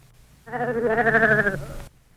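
A single sheep bleats once, a wavering, quavering cry lasting about a second, clear against a quiet background.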